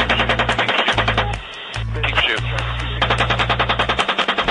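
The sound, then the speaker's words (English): Sustained machine gun fire engaging eight individuals, a fast, even rattle of loud shots over a low steady drone, broken by a short gap of hissy static-like noise before the rapid bursts resume. “We're still firing.”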